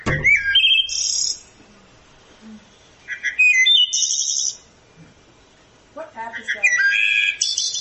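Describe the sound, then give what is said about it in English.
A recorded wood thrush song is played back from a field guide, turned up loud: three separate flute-like phrases, each ending in a bright, airy trill, with short quiet pauses between them. It sounds fairly loud and clear. “It sort of echoes out of the woods, and you usually don't get a good look at a wood thrush, but they're singing constantly.”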